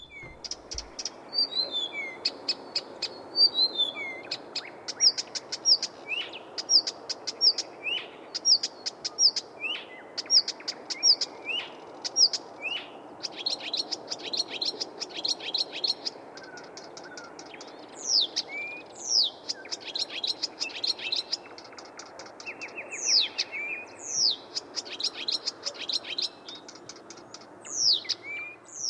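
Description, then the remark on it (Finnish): A Blyth's reed warbler sings steadily, repeating short bright phrases of whistles, chirps and harsh clicking notes with little pause, clear over a faint background hiss. “Viikolla 23 viikon luontoääni on Viita Kerttunen”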